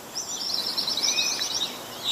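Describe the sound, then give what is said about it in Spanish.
Birds chirp and twitter in a steady, busy stream of high, quick notes at an idle concrete factory in Arganda, where the machines have stopped, over a soft outdoor background hush with no machinery or voices. “El ruido de las máquinas ha dado paso al de los pájaros.”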